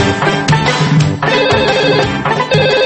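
A telephone rings with a loud, melodic ringtone: bright, buzzy notes in a steady tune that fills the whole three seconds, with no one talking.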